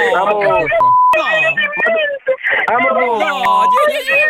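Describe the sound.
Two short, steady electronic beeps, like an alarm tone, sound a few seconds apart beneath busy, overlapping voices talking loudly throughout.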